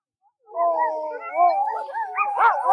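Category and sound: animal, dogs howling and barking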